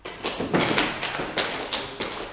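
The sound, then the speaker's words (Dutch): An audience in a church stamps feet and claps together when the name Haman is called, a loud, dense burst of thuds and slaps lasting a couple of seconds, with a few stronger surges standing out from the steady clatter. “Dat als ik nou één keer de naam Haman roep, dat jullie heel hard gaan stampen, klappen en gillen.”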